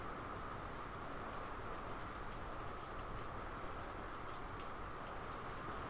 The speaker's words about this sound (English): And I really can't record anything decent with that in the background and with water dripping all over. But this sounds pretty cool when you're recording like this. I like the rain.